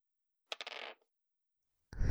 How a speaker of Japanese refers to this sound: じゃあサイコロ振るね。